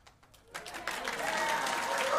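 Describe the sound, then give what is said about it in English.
An audience breaks into applause, starting with a few scattered claps and quickly swelling into dense, sustained clapping from a large crowd that grows louder toward the end. “When Jesus concluded his address, the crowd burst into applause.”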